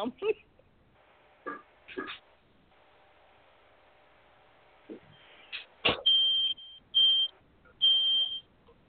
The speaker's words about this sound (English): The house on fire? That's what that sounds like, a fire alarm. Mm-hmm. Smoke detector.